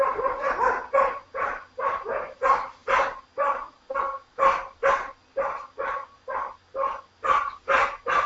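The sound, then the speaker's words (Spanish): A dog barks loudly and close by, a long steady run of sharp barks in a quick, regular rhythm, about two per second, with no talking over it. “Se ve que el perro necesita una mano sí, dura.”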